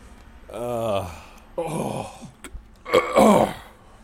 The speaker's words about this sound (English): Oh, God, don't ever burp at these things. Holy Christ. Ew! Wait, let me try. Shit.